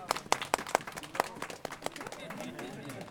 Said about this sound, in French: Et là, on applaudit bien fort.